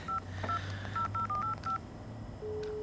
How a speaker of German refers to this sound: wähl die Nummer.